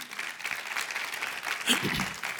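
An audience claps together in a steady, dense wash of applause for the Lord during a sermon, moderately loud and sustained for a couple of seconds, with a faint voice briefly rising underneath near the end.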